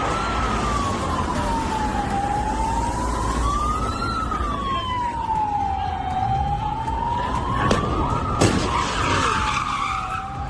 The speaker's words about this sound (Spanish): Sirenas, derrapes, golpes.